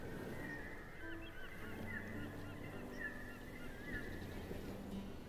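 Seagulls call repeatedly as they glide along the shore where a river joins the sea, over a steady wash of shoreline noise, their cries overlapping, with no speech.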